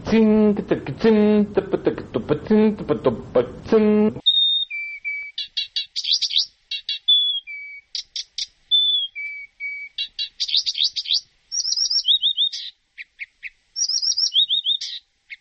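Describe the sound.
A man speaks briefly, then a reed warbler sings alone: a busy, rhythmic run of high chirps, trills and short whistled notes, repeated in quick bursts with brief pauses.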